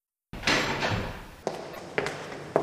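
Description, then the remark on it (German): A few sharp knocks on a wooden office door, spaced about half a second apart, fairly loud, following a brief muffled rustle or door noise. No one speaks. “Da klopfte es plötzlich an meiner Bürotür.”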